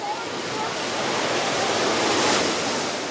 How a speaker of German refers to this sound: Ja, und jetzt lasse ich Ihnen hier mal eine Welle ins Ohr schwappen. Welche Gedanken kommen Ihnen so bei diesem Geräusch?